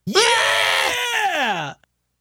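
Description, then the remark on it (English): A person voices a loud, strained goat-like scream, one sustained wavering cry lasting under two seconds that rises sharply and then bends downward before cutting off abruptly. “What do goats do? They scream.”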